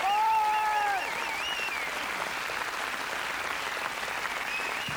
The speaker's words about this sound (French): Je vais applaudir Frédéric Lebon, Gérald Dahan et Jean-Éric Vielle. Sur des textes de Laurent Ruquier.